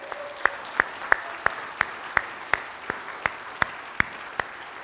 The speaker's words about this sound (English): All of our youth workers, all of our pastor, youth pastor, his wife, and there's one or two up there in the balcony, and there's several down here. Let's give them a hand.